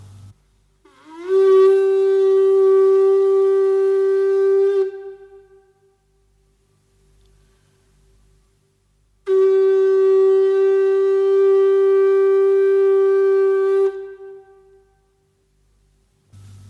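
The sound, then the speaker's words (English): Two long, loud blasts on a buffalo horn from Asia Minor, a horn used for signalling and calling cattle, each a steady, buzzy mid-pitched tone rich in overtones, the first sliding up into pitch, separated by a few seconds of quiet. “Above the shofar is a buffalo horn from Asia Minor.”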